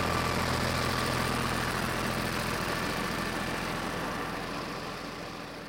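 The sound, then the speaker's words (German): A tractor engine drives a mill, chugging steadily with a deep, low rumble and a mechanical drone. It stays loud throughout and eases off slightly toward the end. No one speaks. “Klangtagebuch, Treckermühle.”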